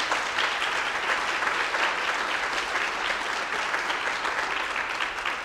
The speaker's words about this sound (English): I don't know if he's around, but let's applaud him.